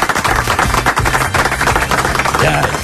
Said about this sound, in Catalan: Bé, per ell. Va, un aplaudiment per ell. Molt bé.